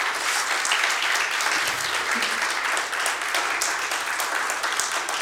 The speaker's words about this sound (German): Und jetzt dürft ihr auch mal, wenn ihr möchtet, gerne einen Applaus geben.